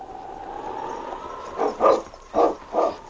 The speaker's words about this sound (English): set the pace for Sergeant Preston's team of huskies. On, King! On, you huskies!